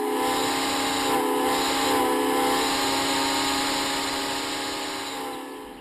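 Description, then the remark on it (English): A vintage 1940s steam train, bringing a group of dignitaries to town, blows its whistle in one long, sustained, loud blast with a breathy hiss beneath its layered tones, tapering slightly toward the end. No one speaks. “I haven't heard that whistle since the 1940s.”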